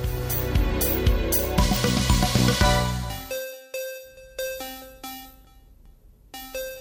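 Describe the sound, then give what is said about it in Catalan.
A mobile phone morning alarm plays a bright, chiming ringtone melody: a busy flurry of notes at first, then spaced single tones that ring and fade, loud with no voices. “I això és d'aquelles coses, d'aquells sons que deixem sonar, deixaríem sonar eternament si poguéssim no aixecar-nos i parar-ho.”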